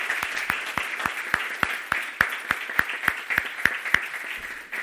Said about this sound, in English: Hey, let's give them another round of applause so they can hear us.